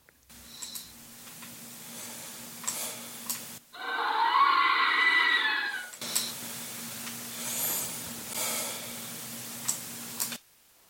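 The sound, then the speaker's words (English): A voice recorder's night recording in a building: soft, steady breathing with faint background hum, then a sudden loud, piercing scream lasting a couple of seconds, followed by more quiet breathing. No one speaks. “you swear to God somebody's there, and you hear this and then this horrifying scream and then some more breathing.”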